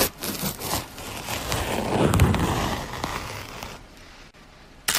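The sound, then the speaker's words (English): A banana being peeled: a sustained, crackly tearing rasp lasting several seconds, broken by a few sharp snaps, with a crisp click at the end. No one speaks. “It's quieter in real life, but it's peeling a banana.”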